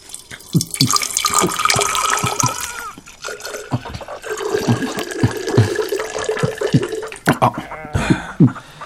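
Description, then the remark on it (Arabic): Water from Herat pours steadily for several seconds, a bright splashing stream with gurgles and small knocks as it fills a vessel for a guest, pausing briefly midway before continuing. “وهذا ماء هرات الزلال.”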